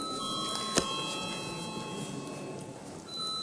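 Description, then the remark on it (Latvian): A parliament voting bell rings before a vote on a bill, a steady, sustained electronic tone at moderate volume, with one sharp click early on and no voices. “Lūdzu zvanu.”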